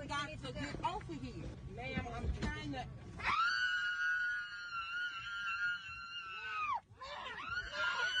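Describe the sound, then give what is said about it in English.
A woman who refused to leave her seat on a Southwest flight after landing lets out a long, loud, sustained scream, following a stretch of agitated, overlapping voices, then breaks off and screams again. “Are you going to get off the aircraft or are you going to sit there and scream?”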